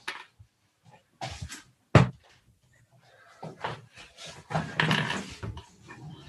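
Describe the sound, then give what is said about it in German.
A door shuts with one sharp wooden thud, surrounded by soft shuffling and rustling movement before and after. No one speaks. “Ich muss einmal eben kurz die Tür zumachen.”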